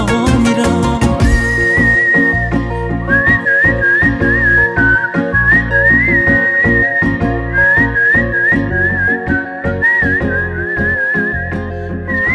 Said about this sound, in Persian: بوتیا رو شوت میزنم را میرم، تو کوچه ها سوت میزنم.